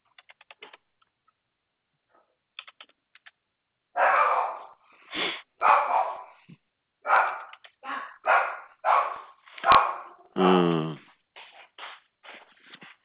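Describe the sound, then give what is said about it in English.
A 15-year-old dog barks repeatedly in a loud series of sharp woofs, with one drawn-out whine-like bark, preceded by light clicking taps like keyboard typing. “My dog's always hearing stuff that ain't there.”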